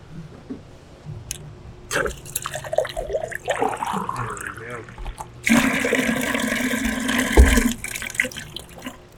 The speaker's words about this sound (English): We're walking up to our water rig. We get a glass of water.